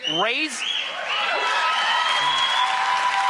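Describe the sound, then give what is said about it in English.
A political rally crowd whoops and cheers loudly as the speaker tells mothers to raise their sons to be monsters, with high rising and falling yells over a steady roar of voices and clapping that continues throughout. “Yeah, it's the whooping and the cheering that really gives me the chills.”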